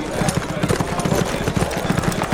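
Ridden horses' hooves clip-clop on a hard street surface in a quick, steady rhythm as the riders rein to a halt in front of a blocky stone building, fairly loud hoofbeats over a low background rumble.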